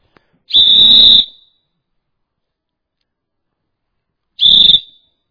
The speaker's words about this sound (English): Let's blow the whistle again. What's it going to do? I brought another whistle here. Let me blow it a minute.